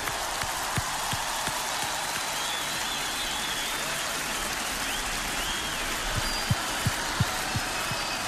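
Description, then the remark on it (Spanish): Steady, dense applause from a concert audience for the closing performer of a festive night, a continuous crackle of many hands clapping with a few sharper individual claps standing out, holding at an even level throughout with no voices. “mira el aplauso, este es para ti.”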